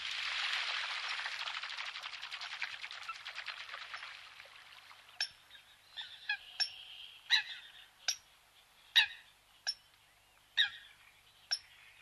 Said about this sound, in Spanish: Más tímida suena la focha común.